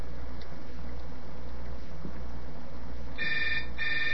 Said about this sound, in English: Now, remember, you're going to hear my cell phone ring in the background, but you don't have to worry about that just yet. Okay, I'm dialing up the cell phone.